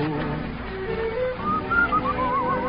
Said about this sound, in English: I'm whistling, looking at that lovely moon.